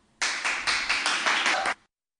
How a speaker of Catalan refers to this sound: I un fort aplaudiment a tots els professors.